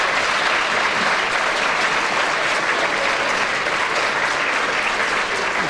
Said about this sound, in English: Well, those ironic cheers from Derek Nimmo. Were they ironic?